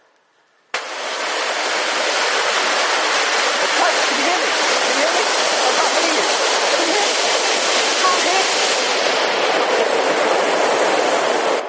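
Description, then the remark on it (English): A loud, steady roar of rushing water, like a waterfall, bursts in abruptly after a brief quiet start and continues unbroken and dense until the end. “We might have a sound of a waterfall, of rushing water.”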